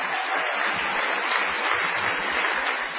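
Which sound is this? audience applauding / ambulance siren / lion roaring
audience applauding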